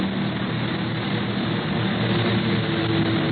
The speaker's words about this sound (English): Look, that other plane's out of control. He's going into a nosedive.